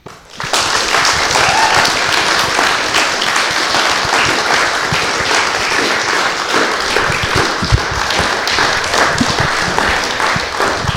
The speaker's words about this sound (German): Die ist schon weg, aber alle anderen Poetinnen würden wir bitten, nochmal auf die Bühne zu kommen. Und natürlich begleitet durch einen herzlichen Applaus von euch.